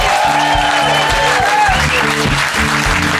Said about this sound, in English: We thank you so much. Another round of applause for the band.